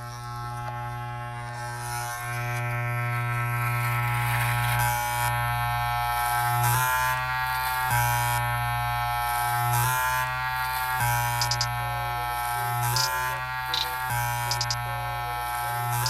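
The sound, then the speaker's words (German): A steady electric razor buzz runs continuously, its droning hum shifting slightly in pitch every few seconds as it presses and moves, with no voices present. “Ja, die möchte ich auch bitte hier eingebaut haben. Und zwar der Rasierer.”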